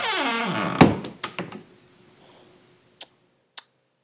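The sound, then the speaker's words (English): A door creaks and rattles open with a loud thunk, followed by a few knocking clunks and two sharp, isolated clicks. “No, please don't go in there. Professor, no, not that door.”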